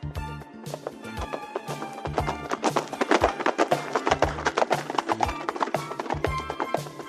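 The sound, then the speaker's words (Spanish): A zebra's hooves gallop across the savanna in a quick, steady rhythm, loud, with each beat landing as a sharp thud that keeps a driving pace throughout. “Galopo por la sabana y soy prima del caballo.”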